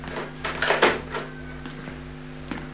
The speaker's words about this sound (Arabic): يبدو أنه وصل، سأفتح الباب وأحسن استقباله، فهو شاب نزق.